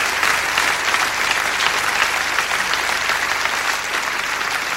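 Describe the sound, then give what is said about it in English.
A large audience claps along together, a dense, steady wash of hands that stays loud and even throughout, with no voices rising above it. “I don't do many clap-alongs, as you know, because that's another thing I realized when I hit 40.”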